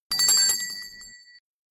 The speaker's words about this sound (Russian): А вот так звучит колокольчик